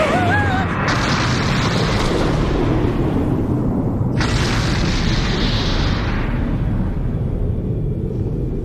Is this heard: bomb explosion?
yes